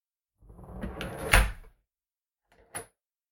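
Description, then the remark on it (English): An office door swings shut with a rustling sweep that ends in a solid thud, then a sharp latch click follows after a short pause. No one speaks. “I'll just close the door behind me so no one thinks you're still available.”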